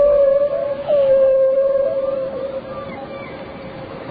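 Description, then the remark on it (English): A long, sustained whale call holds a steady tone with slight wavering pitch, loud and continuous for several seconds before gradually fading, with no talking over it. “Can you relate to me the secret of life, Mr. Whale?”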